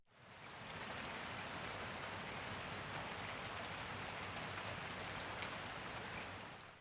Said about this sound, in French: Dehors, Choupi entend la pluie et le vent souffle très fort.